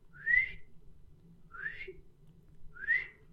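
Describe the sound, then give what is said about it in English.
A groundhog (woodchuck), sitting up by its burrow, gives three sharp, high whistles, evenly spaced about a second and a quarter apart, each a short rising-falling chirp heard outdoors over a low rumble of background noise. “And he was sitting up and whistling. And I said, oh my God, they really do whistle.”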